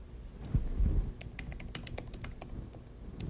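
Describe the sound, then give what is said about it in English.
Rapid, irregular clicking of keys being typed on a laptop keyboard much like a Mac keyboard, fairly clear, with a couple of low thumps near the start and no one speaking. “And I like the keyboard. It's usable. It's very much like a Mac keyboard.”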